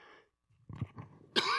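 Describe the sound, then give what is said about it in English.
A man, a preacher giving a sermon to a church audience, clears his throat with a few rough, low rumbles, then lets out one sharp, loud cough. No talking. “If somebody has a cough drop, I'd appreciate it.”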